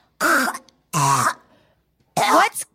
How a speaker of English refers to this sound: And I'm sorry if you guys have heard her hacking it in the background. She's got kennel cough.